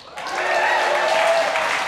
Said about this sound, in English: You clapping for that shithole? That dump?